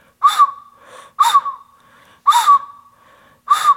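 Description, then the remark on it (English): Four short, breathy toots on a toy train whistle, evenly spaced about a second apart, each a brief airy blast with a faint tone trailing off. Fairly loud, with no talking. “So for example, At action skill 1, a child might be using a train whistle like this.”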